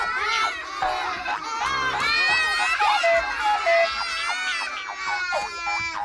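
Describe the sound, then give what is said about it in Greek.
A crowd of excited children shouting and squealing all at once in a school classroom as the door opens, high-pitched overlapping voices rising and falling in a loud, continuous clamor with no single voice standing out. “Η πόρτα ανοίγει και τότε ήχοι και παιδιά ενθουσιάζονται.”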